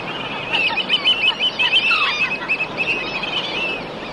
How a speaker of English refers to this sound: The Jersey Shore, where each weekend millions of people come to enjoy the ocean. But sometimes the sounds of surf and seagulls are drowned out.